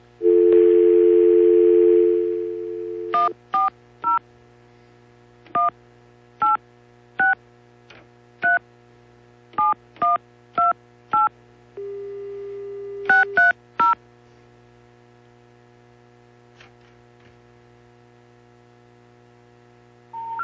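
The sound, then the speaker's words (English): A steady dial tone is followed by a quick run of touch-tone beeps as a number is punched in, a brief pause, then another short tone and a few more beeps over a faint hum. “I got to use the phone here a second.”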